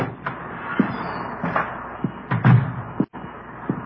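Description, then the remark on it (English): The front door of a house at 4656 Collis Avenue, Los Angeles, opens and shuts at 1:15 p.m. on a warm August day, with a handle rattle and a solid thump, amid a series of wooden knocks and bumps over a faint background hiss, with no talking. “The front door.”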